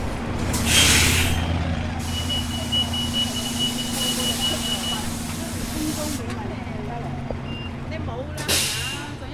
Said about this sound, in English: Is this your bus? Yes.